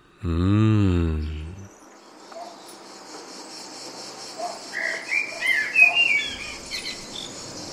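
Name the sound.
chirping crickets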